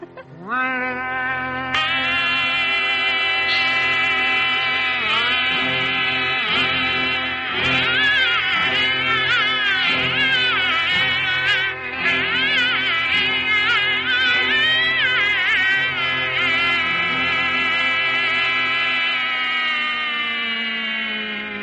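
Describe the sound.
A voice imitates a bagpipe: a steady, nasal, buzzing drone with a wavering melody on top, held continuously and loudly for about twenty seconds with no talking.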